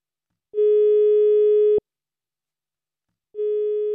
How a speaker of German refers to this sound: Ehrlich gesagt bin ich nicht unglücklich, dass mein Telefon ins Leere läutet.